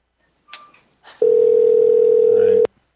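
Two quick keypad beeps, then a loud, steady telephone dial tone hums for about a second and a half before cutting off abruptly with a click.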